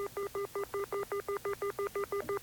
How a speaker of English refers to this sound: Now, there's all kinds of... want to hear a phone being dialed? See if this... Okay, those are the pips, they call it, on a dial telephone.